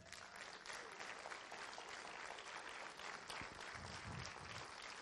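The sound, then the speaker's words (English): A crowd gives the Lord a big hand clap for Brother Bob Sorge, many hands clapping in a dense, continuous wash of sharp claps that stays loud and even for several seconds, with faint voices mixed underneath. “Come on, let's give the Lord a big hand clap for Brother Bob Sorge tonight.”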